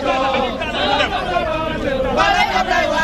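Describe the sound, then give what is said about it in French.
A dense crowd of supporters chatters and murmurs outside the Point E polling station, awaiting the arrival of Abdoulaye Wade; a steady babble of many overlapping voices with occasional louder swells, no single speaker standing out. “devant le bureau de vote du point E, on attend l'arrivée d'Abdoulaye Wade”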